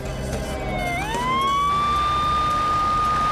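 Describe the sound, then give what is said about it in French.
A police patrol car siren wails as the car is dispatched to an emergency call in Boston, its tone sweeping up from low and then holding a steady high pitch, loud over a constant rumble of traffic noise. “La répartitrice dépêcha deux voitures de patrouille sur les lieux.”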